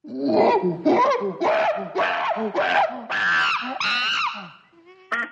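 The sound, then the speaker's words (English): A chimpanzee call sound effect: a rapid series of about seven rising, hooting bursts climbing into shrill, screechy pants, loud and excited, ending with a brief squeal and no talking. “That's the chimpanzee.”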